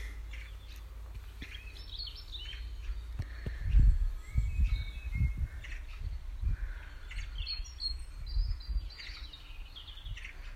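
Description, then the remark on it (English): A robin in an apple tree sings in thin, high, twittering phrases, scattered and fairly soft, over intermittent low rumbling bursts. No one speaks. “Robin's just come a bit closer to me in the apple tree.”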